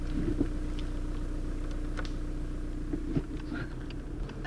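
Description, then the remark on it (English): A car engine running on vegetable oil idles steadily with a low, continuous rumble, with a few faint clicks and knocks over the hum. “We've now switched over to vegetable oil, and you can hear there's no real difference in the sounds the engine is making or anything.”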